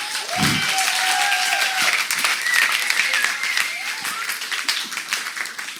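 Steady audience applause at Fallbreak, a dense wash of many hands clapping at a constant loud level for several seconds, with a few cheers and voices rising faintly through it.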